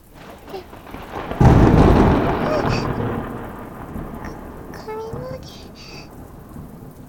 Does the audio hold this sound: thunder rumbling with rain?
yes